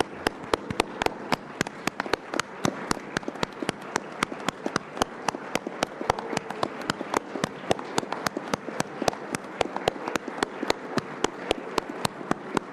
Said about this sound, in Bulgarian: нека станем и с ръкопляскане да отдадем своята почет и уважение към всички българи, в частност лекарите, учителите и полицаите. Призовавам ви да станем и с ръкопляскане да ги почтем.